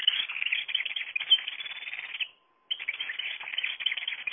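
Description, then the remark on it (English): A goldfinch song played from an Audubon musical bird toy: a rapid, bright, continuous twittering, fairly loud, broken by one short pause midway, with no talking. “here is Artificial Bird of the Week, the Goldfinch.”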